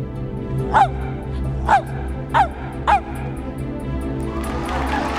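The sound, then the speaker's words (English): A dog barks four times in an even, steady rhythm, counting to four on command, each bark short, with a low background hum and a slight hiss rising at the end. “Let's hear the dog to count.”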